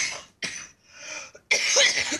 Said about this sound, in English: I hear that you're coughing there,